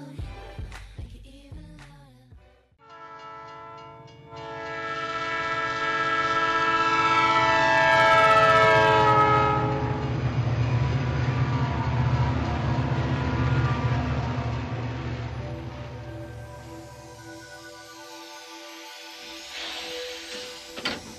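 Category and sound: vehicle, train passing with horn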